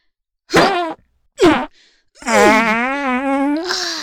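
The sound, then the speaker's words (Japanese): Three loud farts in quick succession, from gas built up over a week of constipation: two short, buzzy bursts followed by a long, wavering, drawn-out one lasting a couple of seconds, with no talking. “うわ、先輩3連発、えぐ。 便秘1週間だから、ガスもたっぷり溜まってたんだ。”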